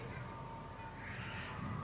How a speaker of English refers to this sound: you hear the loons.